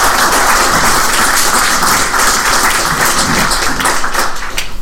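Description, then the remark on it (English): A crowd applauds the speakers at a presentation event, a dense wash of many hands clapping at a loud, even level for several seconds, thinning slightly at the end. “Round of applause for our speakers, I think.”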